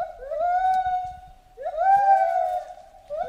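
A monkey howls in two long, loud, rising calls that hold a steady pitch, with a third call just starting at the end; no one speaks.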